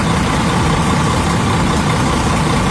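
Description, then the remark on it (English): A double-decker bus diesel engine idles steadily and loudly in London with a low rumbling throb and broad mechanical noise throughout, no voices present. “Still driving his double-decker bus around London, promoting his new single”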